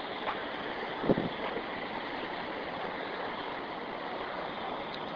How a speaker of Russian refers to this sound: Шумит водопад.